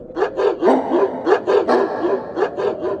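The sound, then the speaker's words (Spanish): A chorus of fierce dogs barking in quick, overlapping bursts, about a dozen sharp barks over a few seconds, loud with no pauses and no voices. “Al otro lado, lo recibió un coro de terribles ladridos.”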